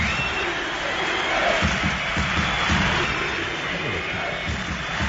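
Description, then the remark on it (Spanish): A large stadium crowd at the Camp Nou roars and chants steadily, with whistles mixed into the dense wash of voices, loud and continuous throughout; some Barça fans shout for coach Luis Enrique while another group of fans whistles. “Bueno, a los gritos de Luis Enrique, por parte de un sector de la afición, se asomaban o aparecían pitidos por parte de otro grupo de aficionados culés que no estaban muy de acuerdo con el apoyo al técnico del Barça.”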